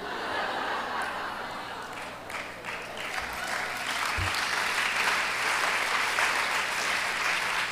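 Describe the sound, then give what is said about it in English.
A crowd claps steadily and loudly for several seconds, a dense wash of applause that swells slightly toward the end, with a few scattered chuckles mixed in. “I'll tell her that you clapped for her.”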